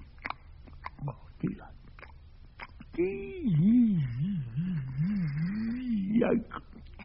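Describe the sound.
A voice imitates munching a sticky peanut butter sandwich: a few wet, smacking bite-and-chew clicks, then a long, wavering, delighted humming "mmm" that rises and falls while chewing, fairly loud.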